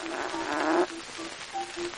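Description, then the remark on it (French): An imitated fart, meant as a labouring elephant's: a long, strained buzzing blast, then a string of short tonal toots with brief gaps, moderately loud, with no talking. “Fait de l'éléphant en mal d'enfant.”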